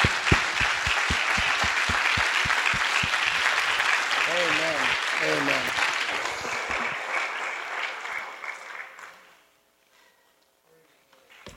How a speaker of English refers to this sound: And if you've been a chaperone on a trip, I hope we could just give a hand clap to all the chaperones in the room right now that have done that.